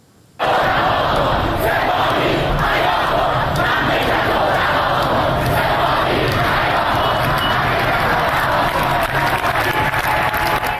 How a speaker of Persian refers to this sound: در مقابل دانشگاه امیرکبیر تهران، دانشجویان و معترضان علیه سپاه پاسداران شعار دادند که با حمله یگان ویژه و شلیک گاز اشکاور روبرو شدند.